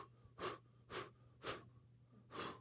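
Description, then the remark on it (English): A person imitates cold-water shock with four sharp, gasping breaths at a quick, uneven rhythm, fairly quiet over a faint steady hum, with no talking. “When you get in cold water, you have to get your breathing first, right?”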